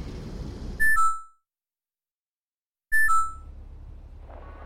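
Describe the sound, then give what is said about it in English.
An electronic proximity alarm, set as a 30-meter alert during a game, sounds twice, each a short, bright two-tone beep about two seconds apart, the first cutting off a rumbling background noise and the second followed by that noise returning. “How long ago did I set that alarm and now she's gotta be right beneath me. 30 meter alert!”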